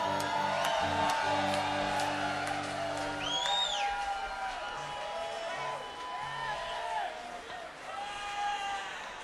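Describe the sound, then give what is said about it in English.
An audience at a live band show cheers and applauds a guest steadily for about nine seconds, with rising whoops and shouts above the clapping. A low, sustained musical hum runs underneath for the first few seconds. “Let's hear it one more time, man.”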